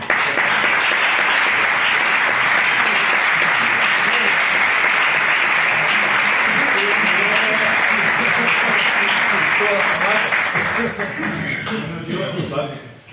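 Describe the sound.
Sustained audience applause fills the room, a dense, steady wash of many hands clapping at full loudness for about eleven seconds before tapering off, with faint voices mixed in.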